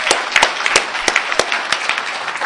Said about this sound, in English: So let's give a round of applause for Narcotics Anonymous.